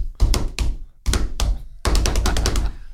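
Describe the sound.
A person vocally imitates their phone's tribal drum beat ringtone, called Temba, with loud, thumping percussive beats in a bouncy rhythm, ending in a quicker run of rapid repeated hits.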